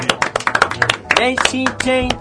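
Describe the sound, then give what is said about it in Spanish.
Scattered hand claps from a small group patter along steadily for the candidates at the end of a debate, joined midway by a raised voice speaking or cheering over the applause. “Un aplauso para los candidatos.”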